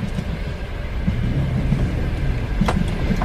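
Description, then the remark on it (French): A car engine starts and settles into a steady, low rumble, with a brief clunk near the end and no voices. “Avec une voiture qui démarre pour dès qu'on est arrivé à la gare.”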